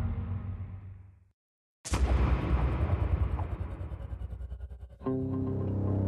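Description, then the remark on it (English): After a brief silence, a loud gunshot blast, one of five gunshots fired late at night along a deserted highway in rural Southwest Virginia, cracks out and trails into several seconds of rumbling, echoing noise, then a low droning hum resumes. “In the late night hours of October 23, 2004, five gunshots pierced the darkness along a deserted highway in rural Southwest Virginia.”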